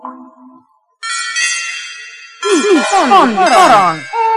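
A glass marble is tapped against the brass knob of a bed, giving bright ringing tones: one steady chime that hangs for over a second, then a louder, wavering cluster of overlapping rings.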